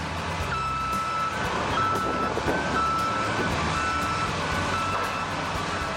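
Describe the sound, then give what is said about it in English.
Heavy demolition machinery tears down Tiger Stadium on July 15, 2008, grinding away in a dense, steady roar of engines and clatter, with a high reversing beep repeating through it. Loud and continuous, with no voices. “Our final word this week comes from the machinery used to take down Tiger Stadium on July 15, 2008.”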